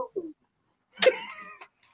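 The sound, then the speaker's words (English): A single drawn-out vocal hoot, a person's voice imitating an owl while saying the word mage, rising loudly and then trailing off, preceded by a couple of brief soft vocal sounds. “Can you say the word mage without doing the owl sound?”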